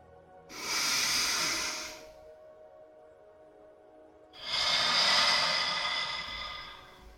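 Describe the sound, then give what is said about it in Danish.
A slow, deep breath is drawn in down into the belly, followed after a short pause by a long airy exhale. Both are fairly loud with no talking. “Tag nu en dyb indånding helt ned i maven, og træk derefter blot vejret helt naturligt.”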